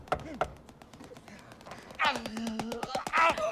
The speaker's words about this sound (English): She approaches the front door and knocks.